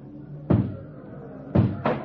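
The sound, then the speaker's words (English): Three heavy, booming blows strike a door as a crowd breaks it down to get into a building with a jail cell block. The first lands alone, then two more follow in quick succession over a low background rumble. “And then when I heard the door come down, I knew I was through.”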